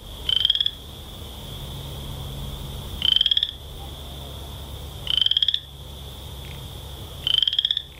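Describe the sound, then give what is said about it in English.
A Western chorus frog calls four times at steady intervals, each a short rising trill like a fingernail run along a comb, fairly loud over a low background hum. “One thing that is certain about all animals is that they need a place to live, and that includes the Western chorus frog.”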